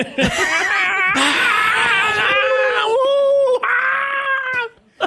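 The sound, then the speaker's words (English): A single voice imitates a cheering basketball crowd during a mock call of a Wiggins-to-Steph Curry play, with a loud, sustained, breathy roar that wavers in pitch across several swelling bursts, then breaks off abruptly after about five seconds. “Excellent crowd noise.”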